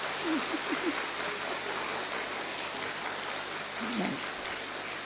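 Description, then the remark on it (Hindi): An audience, standing in honour of a speaker, claps loudly and steadily, a dense, continuous patter of many hands that barely varies in level, with a couple of brief voices rising through it. “सभी एक बार खड़े हो जाओ दीदी के सम्मान में, थोड़ा अच्छा तालियां बजाओ जोर से, ताकि नींद भी दूर हो जाए आपकी।”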